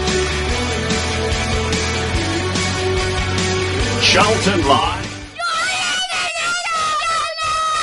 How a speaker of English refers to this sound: So you heard the mascots from yesterday's game shouting as loud as they could into the microphone.